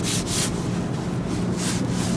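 Jacket fabric rustles and swishes as the wearer moves their arms, with a few brighter scraping bursts over a steady low rumble of background noise. No one speaks.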